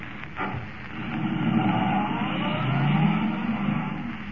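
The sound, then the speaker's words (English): A car engine roars at its top speed as the car races toward Linwood, its pitch climbing steadily as it accelerates hard. The loud, continuous revving fills the whole stretch with no voices over it. “Forcing the car to the limit of its speed, Kent races toward Linwood”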